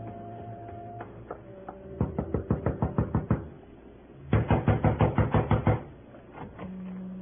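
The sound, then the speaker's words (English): Two quick runs of light rapping knocks on a door, about eight or nine taps each, separated by a short pause, over a low steady hum with no one speaking. “Gentle knock does it, Max.”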